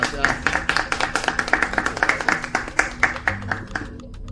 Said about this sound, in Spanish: Un fuerte aplauso para la Santa Gula. Gracias, chicos, cocinan en verdad exquisito.